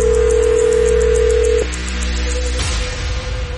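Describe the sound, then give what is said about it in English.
A steady electronic telephone ringing tone on an outgoing call to a contest winner, heard from the caller's end, hums loudly for over a second, then breaks off into a quieter line hiss and a sudden click as the call connects. “David, answer the phone.”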